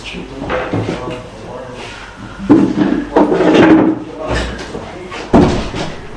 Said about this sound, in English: let me just close the door if you don't mind.